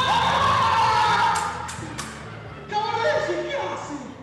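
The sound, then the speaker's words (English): An enthusiastic theater audience, including young children, cheers and shouts under a big top in Argentina, a dense wash of excited voices with a couple of sharp thumps, loud throughout the few seconds; only half of the 800 seats are filled. “The crowd is enthusiastic, but only half the 800 seats are filled.”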